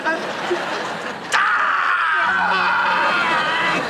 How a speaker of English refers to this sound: Hey, you gotta stop screaming.